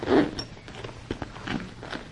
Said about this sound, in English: Put that inside. Good job. You want to zip it now? Pull it up. Up. This way.